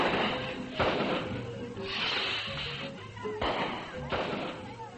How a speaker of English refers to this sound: There was a loud report, followed by a series of staccato bangs as the rocket completed its explosive arc across the Salvadorian sky.